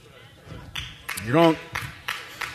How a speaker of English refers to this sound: I got one hand clap right there.